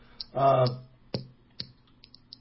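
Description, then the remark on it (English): Small sharp clicks of a small pen being clicked come at irregular intervals, two of them louder than the others, and a brief voiced murmur sounds near the start. “You hear that clicking? You got a little pen or something? I hear these little clicks and stuff.”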